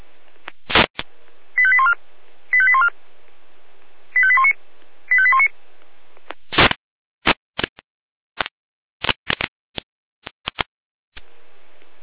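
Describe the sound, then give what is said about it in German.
Four short bursts of stacked electronic tones play in a steady rhythm, bracketed by clicks, followed by a rapid, irregular series of sharp clicks and crackles with no voices. “Alarmruf.”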